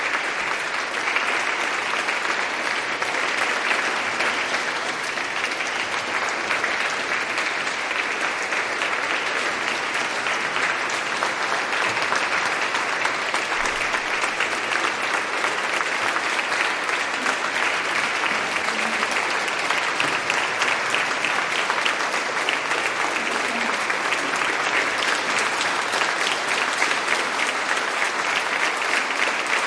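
Sustained audience applause, a dense, steady wash of many hands clapping at an even loudness for about thirty seconds, with no one talking over it, as an audience of pilgrims welcomes a trio of women singers.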